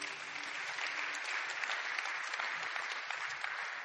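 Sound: audience clapping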